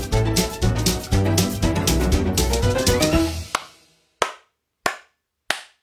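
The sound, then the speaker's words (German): Music plays for a few seconds and cuts off, followed by three loud, crisp spanking slaps on a bottom, evenly spaced, each with a short ringing decay. “Weil es nicht in den Flugmodus geschaltet hat, hat es gerade nochmal 10 Schläge obendrauf gegeben.”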